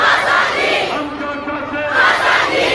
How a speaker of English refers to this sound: We want freedom. We want freedom, these men and women are shouting. They're citizens of Muslim-majority Kashmir, a region that's been a flashpoint in tensions between India and Pakistan since the two nations were partitioned in 1947.